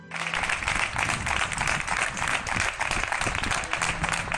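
Steady, dense applause from many people clapping at once on balconies, a continuous crackling wash that holds at an even level throughout, with no voices standing out.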